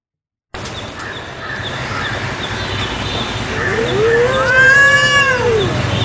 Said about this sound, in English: Get it? It's a cat fight.